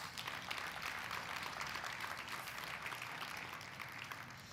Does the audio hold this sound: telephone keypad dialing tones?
no